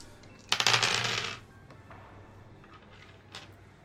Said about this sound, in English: Well, whoops, that dice fell on the floor.